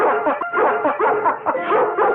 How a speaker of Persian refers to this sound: آروم باش پسر. چونه سگا اومدن؟ چند تا؟ 8 تا.